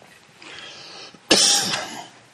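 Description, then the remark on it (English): A single harsh cough bursts out, sharp at its start and trailing off into a rough, breathy rasp, with no talking around it. “I'm grateful that I hadn't been worse than it is so far, but the cough, I mean.”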